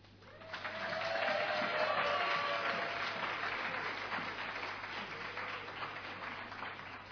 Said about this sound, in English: if we could just hold our applause till the end so I can get there, say the names.